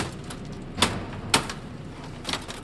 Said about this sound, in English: Remember that laptop you took such good care of for years? Well, today a guy in a warehouse is bashing it apart with a hammer.